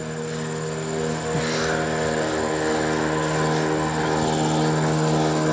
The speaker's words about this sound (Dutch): Als de boot zo meteen voorbij is, dan sluit ik hem lekker ook af daarmee. Dus we wachten heel eventjes. Ik ben benieuwd wat er nu langskomt. Ah, weer toeristen.